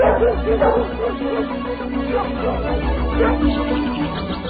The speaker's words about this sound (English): The dog's got a scent.